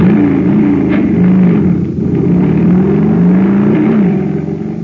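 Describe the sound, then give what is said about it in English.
A jet cycle's engine, given super fuel and supercharged, roars and revs continuously, its pitch rising and falling in surging waves over a deep, steady rumble, loud throughout with no voices. “But pour in some super fuel, and you get a super start, like this.”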